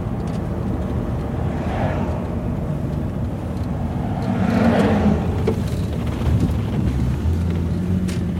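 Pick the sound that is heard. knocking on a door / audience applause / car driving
car driving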